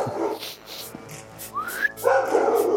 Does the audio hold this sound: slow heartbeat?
no